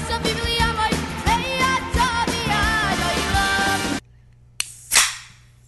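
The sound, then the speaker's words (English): Music cuts off, then a drink container is cracked open: a sharp snap followed by a short, loud burst of fizzing hiss that quickly fades. “Good crack to start.”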